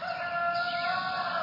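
A rooster crows once, loud, a long strained call held steadily for the whole moment with no voices around it.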